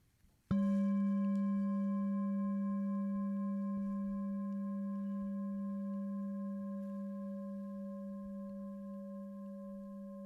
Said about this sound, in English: And sound moving through time. And the sound of the bell moving through time.